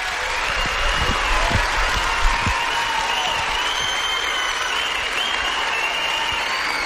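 An audience applauds children after hearing them sing, steadily throughout, with dense, overlapping clapping holding an even loudness from start to finish and no clear pauses.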